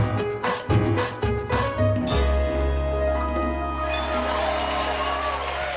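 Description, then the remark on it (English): An upbeat musical sting opens with a few sharp rhythmic hits, then settles into sustained tones while a steady wash of audience applause welcoming guest Adam Devine rises underneath and continues to the end. “Right, that's you're fun, the only one, you're the only one they applaud for.”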